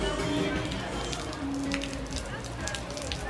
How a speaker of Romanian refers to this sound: Dacă nu ar fi început o ploaie torențială, în centrul vechi ar fi ajuns încă și mai mulți bucureșteni.